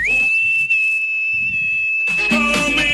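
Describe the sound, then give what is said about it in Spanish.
A knife sharpener's whistle sounds as one long, steady, high-pitched tone held for about two seconds, then fading under a brief burst of bright, busy noise. “Llegó el afilador, chiquilla.”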